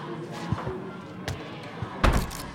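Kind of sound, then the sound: household object, doors being thrown open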